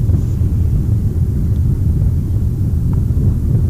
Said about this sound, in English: Anyway. got a big freight train going along behind us here.